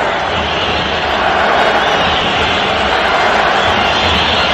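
A stadium crowd roars after Paraguay scores against Brazil at the Mario Alberto Kempes stadium in Córdoba, Argentina, on 9 July 2011: a dense, loud wall of cheering voices that holds steady without pause for several seconds, with no single voice standing out.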